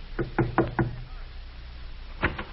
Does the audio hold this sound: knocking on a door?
yes